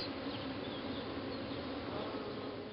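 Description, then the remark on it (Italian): A steady, continuous drone of bees buzzing, a dense low hum with no pauses, soft and even like a drowsy swarm, with no voices present. “La balsamica aria estiva, il silenzio riposante, il profumo dei fiori e il ronzio soporifero delle api avevano sortito il loro effetto.”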